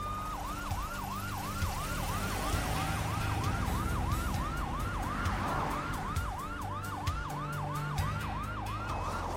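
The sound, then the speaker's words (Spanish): An ambulance siren wails in a fast, steady yelp, rising and falling in quick repeating cycles, loud over a low rumble of traffic, with no one talking, as paramedics take a woman to the hospital in Hilo. “Los paramédicos la suben a la ambulancia para llevarla al hospital de Hilo.”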